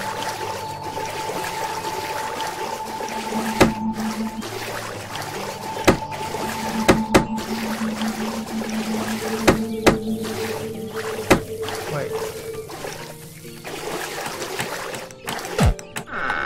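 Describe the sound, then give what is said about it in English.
Steady sea water sloshing and swirling around a boat in the video game Manamon, loud and continuous, with sharp clicks and sustained electronic tones layered over it. “The sea.”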